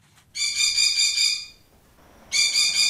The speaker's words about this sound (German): werden die Gäste nicht nur von ihm, sondern auch von lautem Vogelgeschrei begrüßt. Kevin, Sonnensittich, gehört zur Familie Papagei.